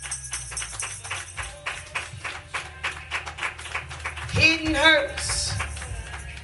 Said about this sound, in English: Come on, let's give God a hand clap of praise for his word on today.